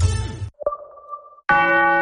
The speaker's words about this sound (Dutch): Hoor je dat? De klok zegt dat het tijd is voor de borrel.